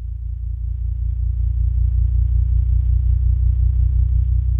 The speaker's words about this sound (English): We're hearing gravitational waves, the ripples in space-time made by the tremendous mass of colliding black holes. We can hear them because their wavelengths have been shifted all the way into the human range of hearing by MIT professor Scott Hughes.